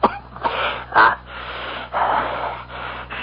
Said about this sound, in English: That cough of yours, sir, is that the reason you bid me here? Yes. And no.